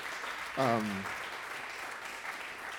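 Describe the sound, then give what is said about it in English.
A crowd at the Roulette venue in New York applauds with steady, dense clapping throughout, and one voice lets out a brief rising whoop near the start. “Give a round of applause for Roulette.”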